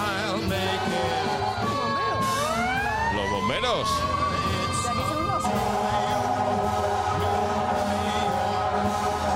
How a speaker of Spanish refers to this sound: Y aquí son héroes, los bomberos. Las 3 de la mañana, da igual. Ponen la sirena, los bomberos, las ambulancias, la policía. A cualquier hora del día o de la noche. Lo de las sirenas es increíble.